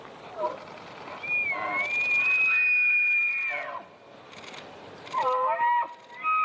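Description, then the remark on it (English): Markhor (wild goat) calls: a few short cries, then a long, steady, high whistle-like note of about two seconds, followed after a pause by a cluster of brief, wavering, higher-pitched calls. “Yeah, it's about Markhors. And before I forget, a group of them is called a flock.”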